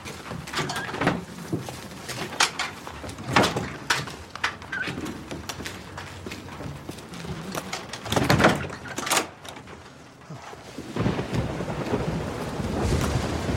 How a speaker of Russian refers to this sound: Идет дождь.